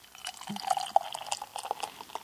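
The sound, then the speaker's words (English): A drink pours steadily from a tall 19.2 can into a glass for a couple of seconds, a bubbly gurgle with small splashes and drips and no voices. “I guess I can pour pretty hefty since it's a tall boy.”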